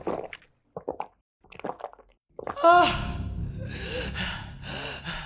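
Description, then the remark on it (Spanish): A thirsty person gulps down water in a few short swallows, then lets out a loud, breathy gasp of relief that trails into heavy exhaling. “No me había dado cuenta cuánta sed tenía hasta que me diste el agua.”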